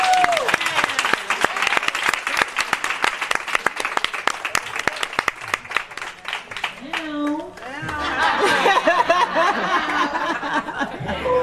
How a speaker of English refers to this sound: And you're one of them. And we clap and we say thank you. Thank you.